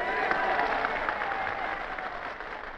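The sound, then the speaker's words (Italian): A crowd of Lucanian farmers, the first 50 families freed from the Sassi of Matera, applauds De Gasperi in a dense, steady wash of clapping that holds at a fairly loud level for a few seconds before easing slightly toward the end. “Ad applaudirlo quel giorno erano i contadini lucani, le prime 50 famiglie liberate dalla condizione disumana dei sassi di Matera.”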